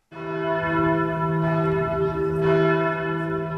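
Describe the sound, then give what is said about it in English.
Church bells ring out continuously in Trier, a town in western Germany near the French border, a rich, sustained metallic peal with overlapping tones that swell and hang in the air, loud, with no voices. “There's a saying that in Trier, it's either raining or the church bells are ringing.”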